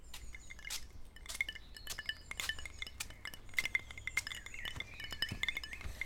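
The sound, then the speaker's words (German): Ice cubes clink and rattle against a glass of iced tea with a straw in a steady series of bright taps over a low background hum, with no one speaking. “Leckerer Eistee. Sogar mit Eiswürfeln und Strohhalm.”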